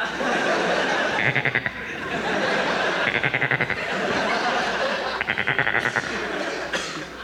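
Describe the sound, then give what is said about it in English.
A goat bleats three times, each call a shaky, quavering burst of about half a second, spaced a second or two apart over a constant murmuring background hum. “Hello, goat.”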